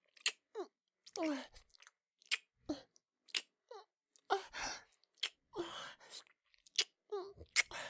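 Moist chewing and crunching sounds in short irregular bursts, a customer eating a bowl of unadon (eel rice) at an eel restaurant, with wet smacks and occasional sharper bites, no talking.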